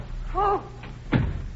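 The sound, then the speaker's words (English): A door swings shut with a single solid thud, followed by a faint click as it is locked. Just before it, a short vocal sound rises briefly over a steady low background hum. “Locking the door.”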